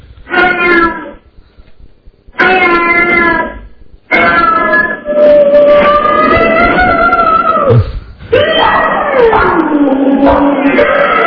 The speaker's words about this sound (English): Anyway, here is the cat fighting.